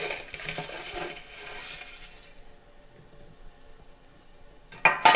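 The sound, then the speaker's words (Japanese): Dry noodles rustle and clatter into a metal boiling basket, to be dipped into a pot of boiling salted water, then things quieten before a sharp metallic clank at the end. “まあ、この時に、まあ、直接鍋に入れていただいても結構なんですけれども、安全を期すためにゆでバスケットの中に麺を入れます。”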